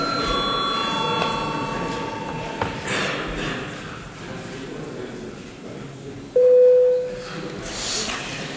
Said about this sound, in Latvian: Lūdzu zvanu deputātu reģistrācijas režīmu.